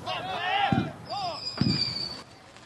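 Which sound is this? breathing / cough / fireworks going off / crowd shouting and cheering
fireworks going off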